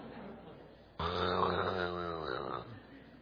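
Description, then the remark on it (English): A person loudly imitates with their voice the snoring of a man on a plane: one long, rasping, droning snort that starts abruptly, holds for over a second, then fades back into quiet. “And then this guy, I have never sat beside somebody that snored so loud on a plane.”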